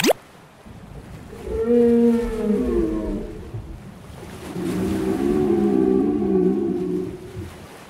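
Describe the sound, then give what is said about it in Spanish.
Two long, moaning whale calls with wavering, drawn-out tones, the first rising then falling, the second sustained and buzzing, over a low rumble of ocean water. “¿Cómo hace la ballena?”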